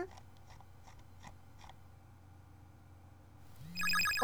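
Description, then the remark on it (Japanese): A few soft clicks or taps sound, then an electronic ringtone for an incoming call on a tablet starts near the end, a bright chiming melody with a low tone beneath, growing louder as it begins. “あ、あれ？タブレットに着信？”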